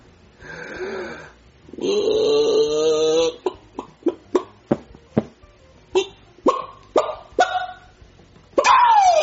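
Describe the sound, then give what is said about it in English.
A person wearing a chicken suit imitates a chicken, trying to act like a real chicken: a couple of drawn-out, nasal squawks, then a rapid run of about a dozen short, choppy clucks, ending with a rising squawk. No other talking. “I want you to act like a real chicken.”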